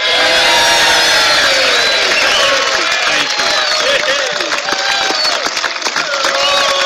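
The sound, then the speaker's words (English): A large crowd cheers and whoops loudly and continuously for Kevin Brady as he is introduced by the President, a dense roar of many overlapping voices with shouts rising above it, sustained at full volume throughout. “We're cheering him.”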